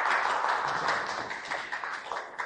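An audience gives a round of applause for a speaker about to go first, a steady, dense patter of many hands clapping at once, holding an even loudness for a couple of seconds with no voices over it.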